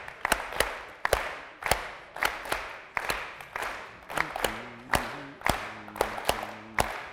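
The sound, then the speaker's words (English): Sharp hand claps repeat in a steady rhythm of seven, in a pattern of short and longer groupings. Partway through, a soft sustained voice or tone hums beneath them. No one speaks. “Clap with me. Not so fast.”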